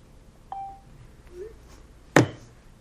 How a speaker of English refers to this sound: is there a way to stop these cameras from beeping?